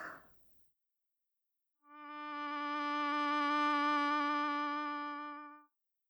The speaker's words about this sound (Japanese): は？さっきの蚊、また飛んできたわ。